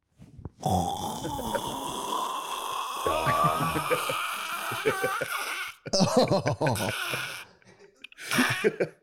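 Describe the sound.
Someone imitates a man snoring: a long, rasping, drawn-out snore lasting several seconds, then a few shorter, choppy snorts and a final brief snort after a pause.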